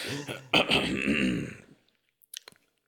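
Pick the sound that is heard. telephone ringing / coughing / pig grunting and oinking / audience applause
coughing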